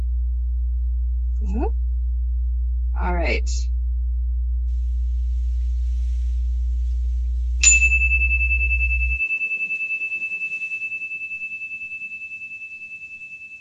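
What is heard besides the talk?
chimes ringing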